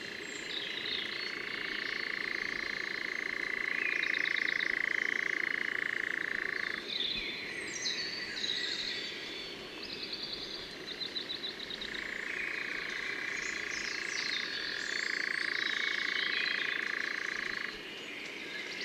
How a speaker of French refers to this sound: Et là il y en a 3-4, ah il y a un engoulevent aussi.